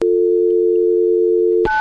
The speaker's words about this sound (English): That's me dialing. Punching the buttons.